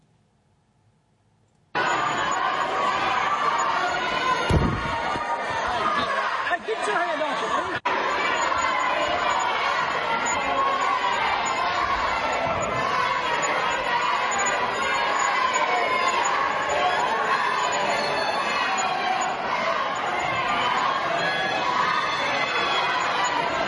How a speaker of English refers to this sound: Kind of hard to hear it real plainly, but what the children were shouting was fascist. Fascist, fascist, fascist.